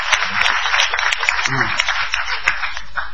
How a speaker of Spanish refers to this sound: Bueno, y vamos a aplaudir.